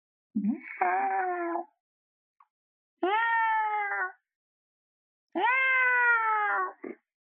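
A female cat lets out three long, drawn-out meows, each loud with a plaintive, wailing tone, separated by short pauses with no other sounds around them.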